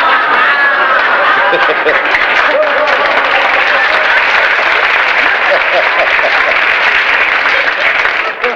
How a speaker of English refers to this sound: I don't know what you're applauding for.